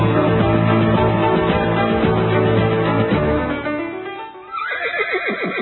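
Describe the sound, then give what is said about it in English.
A horse, Bessie, who has a stone caught in her hoof, neighs loudly, a dense, shaky whinny that fades briefly, then breaks into a series of quick, descending whinnying pulses near the end. “Look, sorry to call you out, but Bessie here has got a stone caught in her hoof.”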